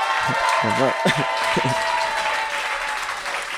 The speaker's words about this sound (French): 16 équipes ont participé. On peut tous les applaudir d'ailleurs.